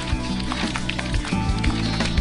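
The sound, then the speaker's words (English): Squishy, rhythmic sounds of butter being mixed in a bowl to make marijuana butter, with repeated soft thumps and wet smearing noises, fairly loud, no talking. “All the mixing.”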